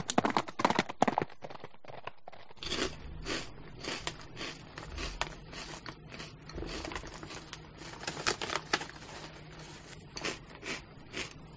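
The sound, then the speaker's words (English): Horse hooves clip-clop in a steady, rhythmic trot, a run of sharp hollow knocks at moderate loudness over a low continuous hum, with no voices. “Until we ride we puff again. Off into the distance.”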